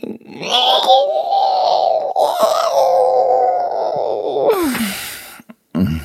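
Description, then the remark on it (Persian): A voice imitates the howl of Wilf, a little wolf in a story, gathering all his strength to howl loudly amid the songs of the forest: one long, wavering wail holding a steady mid pitch for about four seconds, then sliding downward and breaking off with a breathy rush. “از میون این همه آهنگ که از دل جنگل به گوش می رسید، ویلف، گرگ کوچک، تمام زورش رو جمع کرد تا احساس فوق‌العاده‌ای که داشت رو با یک زوزه بلند به گوش همه برسونه.”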